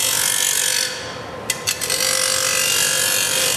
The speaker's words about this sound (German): Ja, hier wurde gerade geschliffen, und zwar ein Schaft von einer Unterschenkelprothese. Ganz viele verschiedene Schleifmaschinen stehen hier nebeneinander.